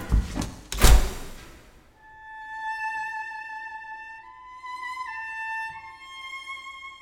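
A heavy door slams shut, with a sharp rattle just before the loud thud. A steady, ringing mechanical hum follows in the quiet afterward.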